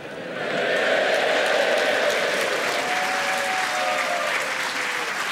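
A large crowd at the newly built Albert Hall, gathered for the Christmas finals of the British Empire Mornington Crescent Tournament, applauds steadily, a dense wash of clapping that swells in quickly and holds at a constant level, with faint cheering tones mixed in.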